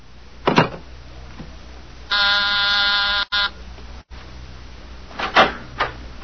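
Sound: buzzer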